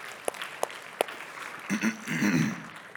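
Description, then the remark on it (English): Audience applause for the people who cooked at the grills: a few sharp, separate claps ring out first, then a steady wash of clapping with murmuring voices mixed underneath. “So just a real round of applause, why don't we, for those people.”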